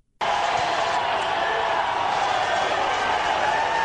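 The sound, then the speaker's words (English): A large baseball stadium crowd at a Texas Longhorns game against West Virginia roars as word spreads that Kansas State has just beaten TCU; a sustained, steady wave of cheering rises abruptly from silence and holds at a loud level throughout, with no individual words standing out. “and word spreads that, oh my God, I mean, Texas, they're just, you know, West Virginia's pitching to Zach Zubia, and the game's just going on, but the crowd gets the word that K-State has just won the game.”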